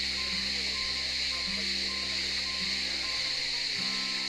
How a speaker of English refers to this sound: This is where they have channeled the spring water. There are four faucets.